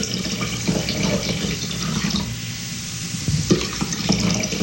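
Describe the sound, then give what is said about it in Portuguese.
Water pours steadily into heavy stone jars, a continuous rushing splash with a few brief knocks and gurgles along the way, moderately loud, with no voices. “Agora, enchei estas talhas com água.”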